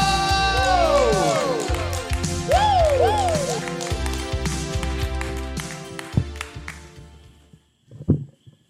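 An audience breaks into loud applause mixed with cheers and sharp rising whistles, the clapping dense at first and then thinning out, with a last brief burst near the end.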